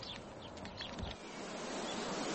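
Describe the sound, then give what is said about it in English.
A steady, broad hiss of wind moving through leafy trees, rushing and surging softly like flowing water, continuous with no voices. “Do the trees always make this noise? Always. They sound like water, don't they? They sound as if they're sighing.”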